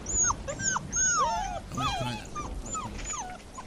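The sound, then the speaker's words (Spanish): A frightened dog, Rocky, whimpers as it flees in terror after a thunderclap during a violent storm, in a rapid string of high, thin whines that slide up and down in pitch, about a dozen cries over a faint background hiss with no talking. “Un rayo iluminó el cielo, seguido de un trueno, que hizo que Rocky huyera despavorido entre gemidos.”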